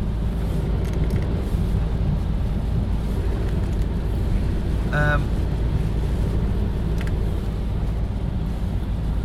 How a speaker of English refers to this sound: Very, very wet and windy weather today. It's not raining hard though, is it?